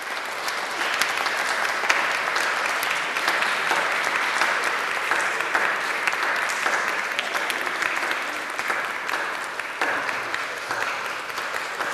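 A standing church audience applauds steadily for about twelve seconds to welcome new confirmation students, a dense, even wash of many hands clapping at a constant loudness with no voices standing out.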